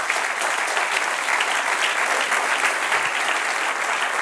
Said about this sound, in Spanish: Denle un aplauso al Señor, amén.